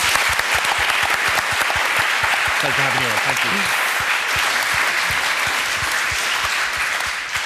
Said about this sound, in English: Thanks. Round of applause.